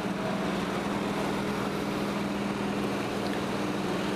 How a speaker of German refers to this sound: Was hier übrigens so brummt, könnte der Kühl-LKW sein. Sieht so aus, als würde das Kühlaggregat hier Geräusche machen.